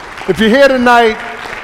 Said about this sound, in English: Let's stay on our feet tonight. Praise Jesus. Get the Lord a hand clap. Come on now.